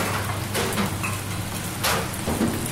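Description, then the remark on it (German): Maultaschen sizzle in huge pans on the stove of the Sonntagsküche kitchen at the Schlatterhaus, a steady dense crackling hiss with brief louder swells, over a constant low mechanical hum, with the extractor hood running at full power. No one speaks. “Auf dem Herd brutzeln in riesigen Pfannen Maultaschen.”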